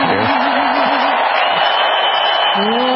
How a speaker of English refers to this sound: And when they show Belichick, everybody boos. Why? What's the matter with him? He's a cheater and doesn't have a good personality.